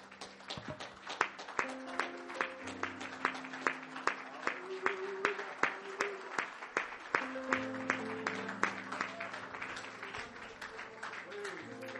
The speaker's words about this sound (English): Man, let's go give the Lord a big round of applause, everybody.